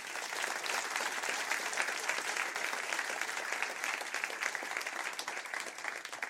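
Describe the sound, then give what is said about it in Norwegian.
Steady audience applause at an evening event about Oddvar Brå, welcoming author Thor Gotaas, who wrote a book about him; it fills the whole stretch, a dense, even wash of many hands clapping at a consistent loudness without any voices on top. “Og en stor applaus til mannen som har skrevet en bok om legenden, nemlig Thor Gotaas.”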